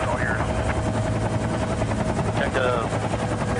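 A helicopter carrying a bungee jumper, its rotor chopping steadily and loudly, a continuous rapid thudding over a deep engine drone with a faint whine rising briefly above it.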